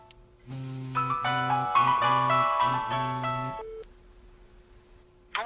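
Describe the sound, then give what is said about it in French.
At the opening of a song, a telephone rings with a bright electronic melody of pulsing tones for about three seconds, then stops. A short tone and a quieter hum follow, with a brief click at the end. “Ça commence avec un téléphone qui sonne.”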